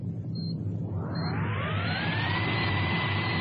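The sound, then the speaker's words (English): A submarine's engines rumble low, then spool up to run full astern in a loud, steady roar with a rising whine climbing in pitch over a few seconds, continuous with no voices. “Start all engines.”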